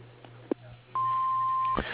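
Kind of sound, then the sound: signal or alarm, answering machine beep tone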